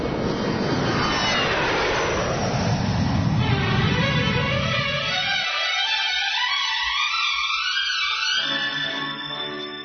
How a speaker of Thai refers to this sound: อ้าวเข้าสู่ช่วงลอยลมบนจิงเกิลครับ